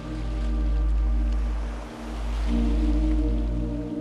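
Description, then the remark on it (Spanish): Sea waves wash in a steady, loud roar with a deep low rumble, easing briefly about halfway through before surging back; no one speaks. “Tras un rato, decides parar un rato tu paseo para bañarte en el mar.”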